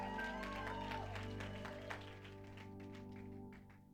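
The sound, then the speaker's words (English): An audience gives a round of applause for Jesus in a dense, steady wash of clapping, loud at first and gradually thinning out, with a sustained low musical tone and some voices mixed underneath. “If you love Jesus today, give him a big round of applause.”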